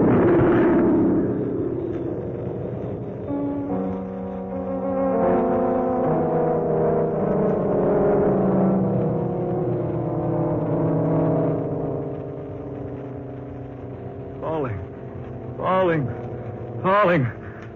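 The New York plane, flying too low and on fire, explodes in midair and falls: a long, loud roaring rumble with droning engine-like tones, followed near the end by three wailing, swooping sounds rising and falling in pitch.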